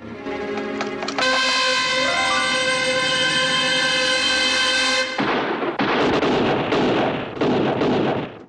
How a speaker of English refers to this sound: Portman fires in the direction of a truck full of Italian troops. The Italians return fire, and Portman and his daughter, fatally wounded, slump to the ground.